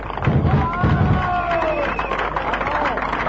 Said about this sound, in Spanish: por favor, el aplauso.